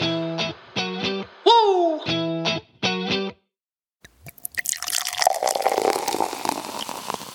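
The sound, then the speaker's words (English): A few short tonal musical bursts give way to a brief pause, then drinks are poured into glasses: a steady splashing and fizzing rush of liquid that carries on to the end. “Did you just be pouring fucking glasses?”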